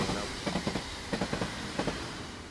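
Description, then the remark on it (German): A freight train in Mexico, known as La Bestia, rolls steadily along the rails, its wheels striking track joints in rhythmic clusters of clacks over a constant low rumble, moderately loud. “La Bestia, die Bestie, das ist der Güterzug, dessen Gleisstrecke sich von Süden Richtung Norden quer durch Mexiko bahnt.”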